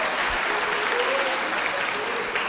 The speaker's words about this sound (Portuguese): Vamos dar uma salva de palmas a esse Deus, irmãos, que quando tudo parecia estar perdido, Ele vira o jogo ao nosso favor.